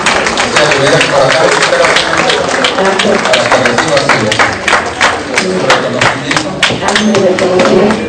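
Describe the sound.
An audience breaks into steady, loud applause, many hands clapping in a dense, continuous patter for several seconds, with some voices mixed into the clapping.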